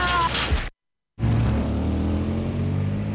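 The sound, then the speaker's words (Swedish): A truck drives by on a hilly road, its engine rumbling with a steady low drone and broad road noise, briefly cut by a moment of silence before the sound returns. “Nej, akta lastbil.”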